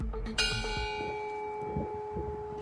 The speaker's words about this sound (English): In Salt Lake City, in Provo City, bells rang 15 times to remember 1,500 Utahns who died.